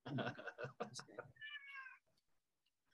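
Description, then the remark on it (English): A person speaks briefly, then a male cat lets out one drawn-out, fairly loud meow, followed by near silence with a few faint clicks. “And maybe you heard my cat in the background.”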